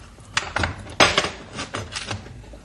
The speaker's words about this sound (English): Now, plain, ordinary door with the padlock. We unlock it.